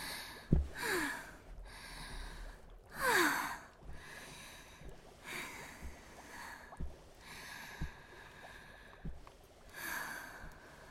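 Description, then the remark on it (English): Slow, deep, even breaths drawn in and let out at a steady pace by a person gently stroking a cat in their lap, some with a slight nasal snort; no one speaks. “Gently stroke the cat and practice deep and even breathing.”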